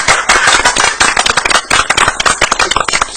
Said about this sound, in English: That was a pity pat. Let's give them a real applause.